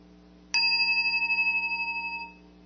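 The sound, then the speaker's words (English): A single bell is struck once with a striker, giving a sharp attack, then rings out in a clear, sustained tone that shimmers slightly as it decays over a couple of seconds, heard alone. “It's like the contact that this striker makes when I first hit the bell.”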